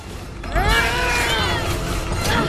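A barrier is smashed through with a sudden loud crash as a character takes a running jump, followed by a couple of seconds of grinding, creaking metallic groans and squeals with no voices.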